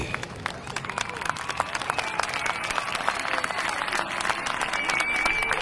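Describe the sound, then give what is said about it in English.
Dense, steady applause runs throughout, a crowd clapping rapidly while scattered cheers and whoops rise above it, staying loud and lively for the whole stretch, welcoming the host at the start of the Smiley J Artist Zone show. “It's nice to be cheered for, and make sure that you cheer others on and all that they do.”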